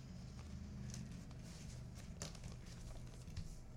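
Paper crinkles and rustles in short, irregular bursts as it is wrapped around a large book, the paper too small and covering only the book's sides, with scattered crisp crackles over a steady low hum; the microphone is right down by the book.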